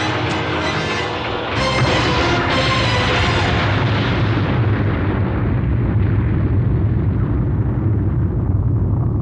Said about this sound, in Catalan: Hi ha hagut una explosió a Matsushiro. No s'ha confirmat l'estat actual.